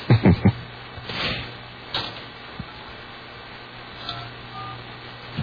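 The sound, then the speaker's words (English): Three quick telephone keypad tones beep in rapid succession right at the start as someone dials a phone number to make a call, then give way to a quiet hiss with a few faint clicks and rustles. “We'll wait while you call.”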